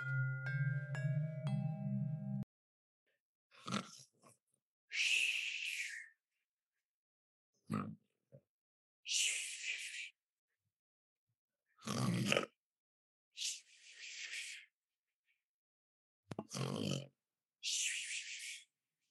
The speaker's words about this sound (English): I swear, he snores just like his grandpappy.